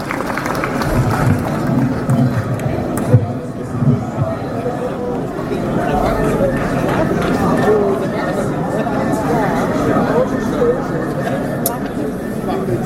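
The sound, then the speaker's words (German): An audience applauds steadily for about thirteen seconds to welcome the DGB youth group before their political reading, a dense, even patter of many clapping hands mixed with crowd murmur and scattered voices, holding at a fairly constant loudness throughout. “Applaus für die Jugend!”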